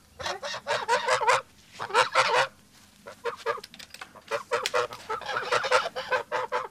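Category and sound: bird, geese honking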